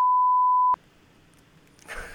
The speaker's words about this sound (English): Please, I'm going to have to beep out all of these.